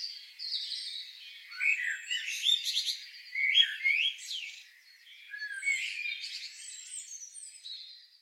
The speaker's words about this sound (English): Tuned into birdsong more in the past year than ever before? Perhaps you're noticing more birds, or simply hearing them more. It's nature's great spring soundtrack. But why do birds sing?